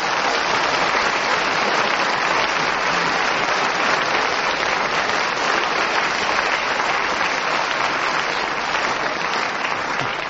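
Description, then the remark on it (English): Loud, sustained applause from a large audience as the whistle goes at the end of a panellist's turn, a dense wash of clapping that stays at full strength from start to finish with no voices breaking through. “Extra loud applause was not only for Derek speaking as the whistle went, but as this audience knows that he can be somewhat racy on occasions, it was his restraint on taking such an outrageous subject they applauded so loudly.”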